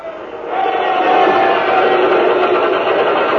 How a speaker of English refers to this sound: And you hear the pumps get going.